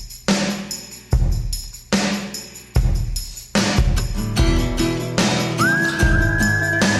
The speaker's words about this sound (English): Whoa. How do people whistle? Whistling out the gate. So jealous of people who could whistle.